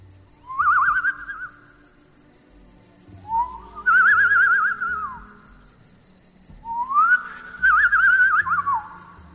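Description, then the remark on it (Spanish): A hunter whistles through pursed lips, imitating a bird to draw the attention of a deer: three clear, warbling phrases separated by short pauses, each rising and trilling, with no talking and only a faint low rumble behind. “Juntaba sus labios y emitía un ligero silbido que imitaba el de un pájaro, para de esa forma llamar la atención de su presa.”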